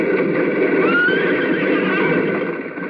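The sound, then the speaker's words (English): A horse rears and whinnies loudly and shrilly as it throws its rider to the ground, one long wavering neigh filling the few seconds, with a faint clatter of hooves underneath and no voices. “is thrown to the ground by his horse.”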